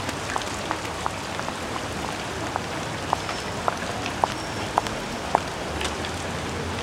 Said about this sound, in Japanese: お、雨だ。おい、行こうぜ。 マジ？私濡れるのやだ。